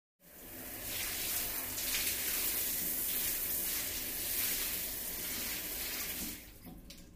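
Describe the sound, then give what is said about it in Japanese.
A shower runs steadily for about six seconds with a dense, hissing spray of water, fairly loud, then cuts off abruptly near the end. No voices are heard. “シャワーで、流しましょうか。”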